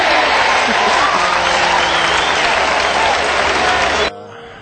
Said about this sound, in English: Wait a minute. I hear a crowd cheering.